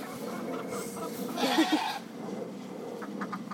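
goats bleating

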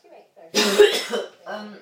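cough and throat clearing

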